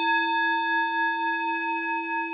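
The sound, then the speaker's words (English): A single Tibetan singing bowl rings with a steady, shimmering tone, its layered overtones sustaining evenly with a gentle wavering pulse, clear in an otherwise quiet space. “The sound of a single Tibetan singing bowl ringing out into a quiet space.”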